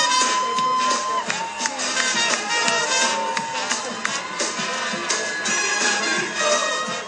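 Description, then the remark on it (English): A large outdoor crowd on Broad Street in Birmingham cheers and whoops continuously as a coffin is driven past in a funeral procession, a dense wash of many voices with occasional high whistles or shouts rising above it, loud and steady throughout, captured on a city webcam feed. “But as his coffin was driven along Birmingham's Broad Street on Wednesday, the mood among the crowds who gathered to see him off was more celebratory than somber, captured on a city webcam feed.”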